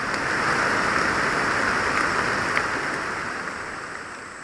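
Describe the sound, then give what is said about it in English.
Heavy rain pours down steadily in a forest during field work, with wind and cool air, a dense, continuous hiss of drops striking leaves and ground, loud throughout with no voices. “Yeah, I mean, this kind of rain is like a godsend, because most of the time I spend doing field work is sweating.”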